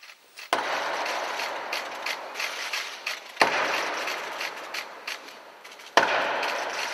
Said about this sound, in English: Three knocks on the west door of York Minster, the traditional way for a new archbishop to introduce himself.